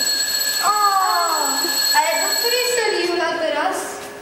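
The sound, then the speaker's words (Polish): A backstage bell at the Łódź Philharmonic, which calls musicians to rehearsal and to the concert and is heard in all the dressing rooms, rings continuously for the whole stretch, a steady, shrill electric ringing like a school bell, while voices murmur and talk over it. “To jest dzwonek, który wzywa muzyków na próbę, ale również wzywa ich na koncert.”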